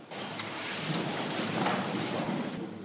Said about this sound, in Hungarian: Istenünk, hálát adunk az esőért, és köszönjük, hogy ez is a te igédet juttatja eszünkbe.